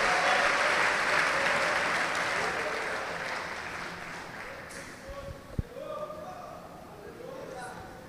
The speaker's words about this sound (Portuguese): Vamos aplaudir o Senhor, e se coloque de pé no seu lugar.